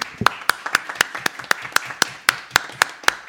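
A short round of applause for a guest from what sounds like one or two people clapping, about a dozen sharp, evenly spaced claps in a steady rhythm, with no talking.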